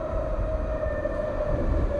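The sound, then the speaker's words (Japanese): A small London Underground Piccadilly line train, known as the Tube, pulls into a station on a Sunday morning, a loud, continuous rumble topped by a steady electric whine, with no voices over it. “これが、ロンドンの地下鉄のピカデリーラインが今駅に入ってきた音になります。”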